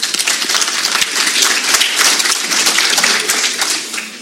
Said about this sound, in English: We also want to just thank all of you here in the community, because without you, our businesses are not successful, and we're not successful as a chamber, so give yourselves a big round of applause for coming out this evening.